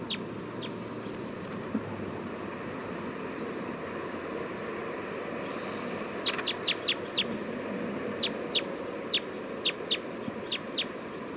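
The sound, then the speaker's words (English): A bird, labelled bird 311, calls with short, sharp, high chirps, one or two at first, then a quick run of repeated notes in the second half, over a steady low rumbling background noise. Recorded at 11:51 a.m. “Recording bird 311 again.”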